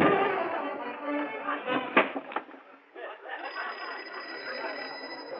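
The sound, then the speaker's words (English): An old-style wall telephone bell rings steadily and insistently for several seconds, fairly loud, with a couple of brief clunks partway through and a thin, tinny quality overall. “Darn that phone. Shut up. I'm not going to answer you.”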